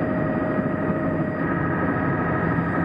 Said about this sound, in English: A lot of choppy waves around the helicopter caused by the blades of the helicopter creating small windstorms in the vicinity of the helicopter.